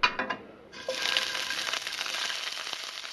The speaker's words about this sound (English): King Prawns, frying in the kitchen of Sehnsucht, or Longing, Berlin's new restaurant designed for people with eating disorders. The giant shrimp will be arranged on a bed of ripe avocado, not the typical image of what an anorexic person might eat.